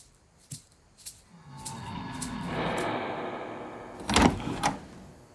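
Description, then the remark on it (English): The door of a huge, ornate living room in an estate in the hills opens: a couple of soft clicks of the handle, a drawn-out creaking swing lasting a few seconds, then two solid knocks as it settles against its stop. No voices. “The living room door opens, and in step the most wanted drug traffickers in the world.”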